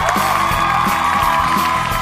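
A steady wash of applause and cheering for a radio programme's sound technician, loud and dense throughout, with scattered whoops rising over the continuous clapping and no clear speech.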